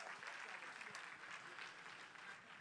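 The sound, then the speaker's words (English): A church audience applauds steadily to thank members who travel an hour to church, a dense wash of many hands clapping at once that stays fairly even throughout, with a faint murmur of voices mixed in. “Can we give them a hand clap and say thank you so much?”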